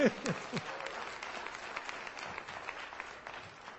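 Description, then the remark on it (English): A church audience applauds together, giving the Lord a hand clap, a dense, steady wash of many hands clapping that starts loud and holds fairly even before easing slightly, with a few brief vocal sounds near the start. “If you're going to give the Lord a hand clap, you give Him a good one.”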